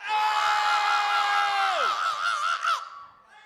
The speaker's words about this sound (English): Now, when we ask y'all to scream, y'all need to scream at a loud pitch. Let's try that. Scream.